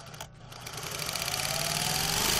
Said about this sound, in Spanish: Esto es una máquina de coser. Puede que te resulte familiar, bien porque te gusta la costura o bien porque en tu casa o en la de algún familiar había una.